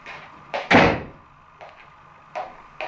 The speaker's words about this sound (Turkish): Şu kapıyı kapatayım.